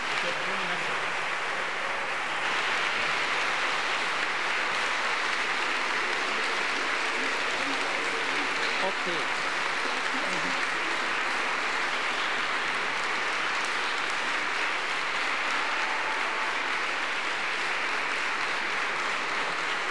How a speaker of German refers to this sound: Ihr habt wunderbar gesungen. Einen ganz herzlichen Dank und ich denke, das ist einen ganz großen und dicken Applaus wert.